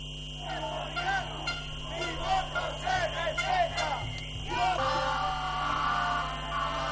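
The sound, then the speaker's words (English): A large crowd of Ecuadorian indigenous people shouting together in the capital, Quito, protesting an alleged electoral fraud, many raised voices overlapping in a loud, continuous roar of yells that swells and dips but never stops for the full seven seconds. “Crowds of Ecuadorian indigenous people have arrived in the capital, Quito, to protest an alleged electoral fraud.”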